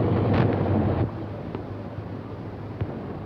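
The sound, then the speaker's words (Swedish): A low, rumbling boat engine hums under steady wind noise, then stops about a second in, leaving gusty wind over water with a faint lingering drone and a few soft knocks as the boat lies still outside a village harbour. “Ja, som ni märker, bästa lyssnare, har motorn stannat.”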